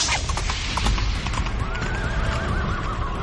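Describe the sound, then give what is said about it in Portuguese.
A black horse's hooves clip-clop in a steady rhythm over a dense, rumbling background, and partway through the horse lets out a long, wavering neigh that carries to the end. “E o quarto vem em um cavalo negro.”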